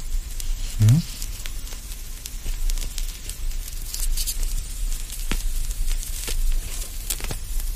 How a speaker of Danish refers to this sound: Men jeg begynder som regel også altid med at tænde en god cigar. I aften skal ikke være nogen undtagelse, så hvis I lige vil have mig undskyld et øjeblik, så... så skal vi nok få ild på denne her.